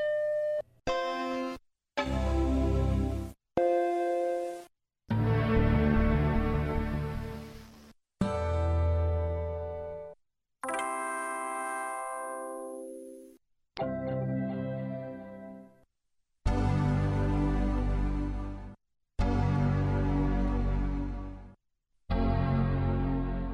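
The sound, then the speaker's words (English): A series of about ten Mac startup chimes from different eras plays one after another, each a loud, rich synthesized chord that rings out and decays before a brief pause and the next differing version. “We close with a recording of Mac chimes through the ages.”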